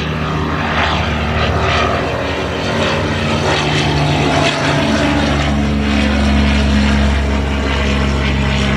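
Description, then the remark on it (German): The engine of a small propeller plane on a sightseeing flight drones steadily and loudly throughout, with a strong low harmonic hum and a broad rushing noise on top; no voices are heard. “Wir sehen manchmal bei den Rundflügen Wale mit Babys.”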